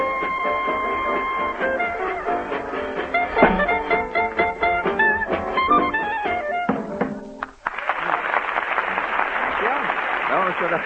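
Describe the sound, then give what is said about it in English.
Lively swing music with sung notes from an amateur contest act plays, cuts off briefly, then a burst of steady, dense audience applause fills the last three seconds at a strong, even level. “And now, while I keep my rendezvous with the applause machine”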